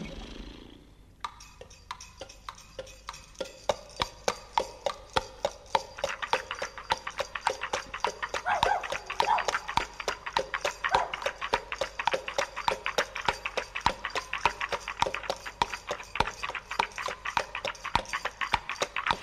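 Horse hooves clip-clop in a steady, brisk rhythm of sharp knocks, as if pulling a carriage, starting after a brief pause and continuing without a break.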